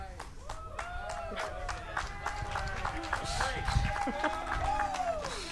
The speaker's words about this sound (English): I don't know why you're clapping, but the campus students, they just clap. They're very supportive. This lesson could go downhill and they'd still be clapping.